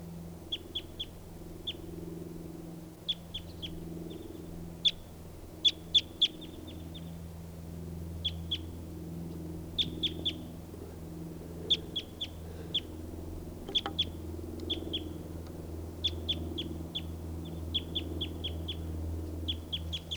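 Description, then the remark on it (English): Birds call with quick, high chirps in short bursts, repeating irregularly throughout, over a steady low rumble in the background; one of the birds is caught in a net. “So recording, there's some other birds here, including lots of two birds, and there's one in the net, and here's the other one.”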